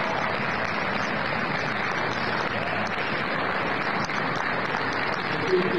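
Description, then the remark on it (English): A small crowd in a meeting room at the Ohio Republican Party meeting claps steadily for about six seconds over the party's endorsement of President Trump, a dense, even patter of many hands without pause, with a few voices faintly mixed into the applause. “There is a very small but mighty crowd in that room.”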